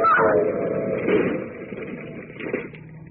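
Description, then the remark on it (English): A car engine roars at high speed as the car races toward a railroad crossing to beat a train, a steady, loud, continuous drone that swells slightly near the start and again toward the end, with no voices over it. “Tasso and Harper are certainly giving their car all it can take.”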